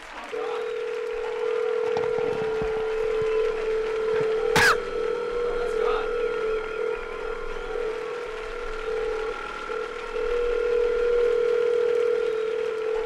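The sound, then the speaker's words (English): A steady telephone dial tone hums throughout, with a brief click partway through and faint dialing sounds; no one speaks. “Is there a number? Let's call God.”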